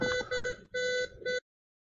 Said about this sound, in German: Also das Piepsen kommt nicht von mir.